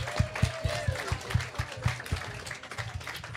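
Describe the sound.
An audience applauds, with steady, rhythmic claps landing a few times per second under a murmur of crowd voices, moderately loud throughout.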